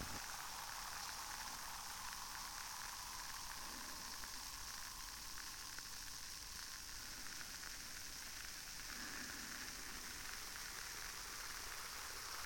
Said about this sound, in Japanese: このパチパチ音、ゾクゾクってなるツボを押された時に似てますよね。私もこの泡、でもゾクゾクします。